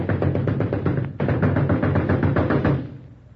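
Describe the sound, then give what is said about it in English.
Donald Duck raps hard and rapidly on the front door of the story shop, a loud dense flurry of blows that stops for a moment, starts again just as forcefully, then trails off. “Who's that out there banging on my door, a giant?”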